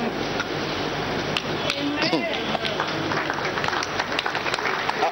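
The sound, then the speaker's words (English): An audience claps steadily for the whole stretch, a dense, even crackle of many hands with a few sharper individual claps standing out and murmuring voices mixed underneath. “Don't clap in your hand.”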